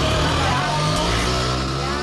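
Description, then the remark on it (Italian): A small Ape 50 three-wheeler engine runs steadily with a buzzy, droning hum and low rumbling harmonics, loud and continuous throughout without pauses or clear revving. “Per gli appassionati il rumore dell'Ape 50 è una musica meravigliosa, perfetta.”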